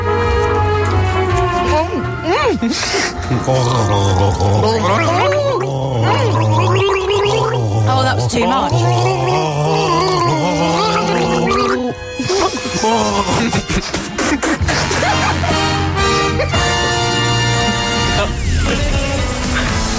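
Someone gargles water in a bubbling, wavering warble, tracing a melody over about twenty seconds at a steady, loud level, with a brief pause midway before the gurgling tune resumes.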